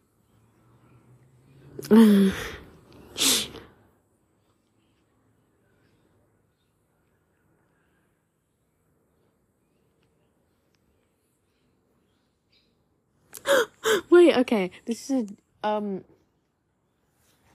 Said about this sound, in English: I think a bird just smacked into the wall. Yeah, it did. It's looking at me now. A bird just smacked into my neighbor's wall.